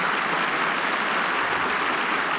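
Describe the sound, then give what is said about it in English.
Steady, dense applause from a large audience, a continuous crackling wash of many hands clapping at once, holding even in loudness for a couple of seconds with no voices heard. “The sound stages of Hollywood are far away from the applauding audience.”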